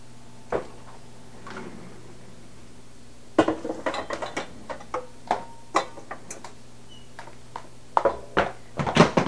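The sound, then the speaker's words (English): A big silverware basket dropped by a young child clatters down, followed by a scattered series of sharp plastic and metal clacks and rattles, irregular and fairly loud, with a couple of isolated taps before it. No one speaks. “You dropped your big silverware basket.”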